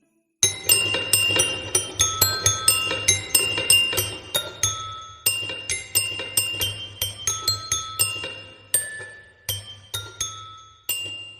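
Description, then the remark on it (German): A hand-cranked music box, its cold metal crank turned hesitantly by hand, plinks out a sour, out-of-tune melody, its bright metallic notes plucked in a steady, slightly uneven stream over a low mechanical hum, ringing on without any voices. “Zaghaft dreht sie sie, wobei eine unglaublich verstimmte Melodie ertönt.”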